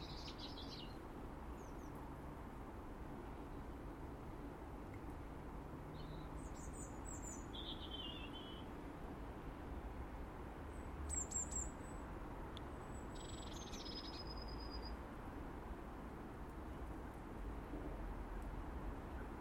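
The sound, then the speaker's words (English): Scattered high, thin chirps and short twittering calls of birds digging down through snow to find food come every few seconds over a steady low rumble of wind-like background noise. No one speaks. “Tough times for these birds, having to dig down through snow to try and find some kind of morsel at this time of the year when really they should be nesting.”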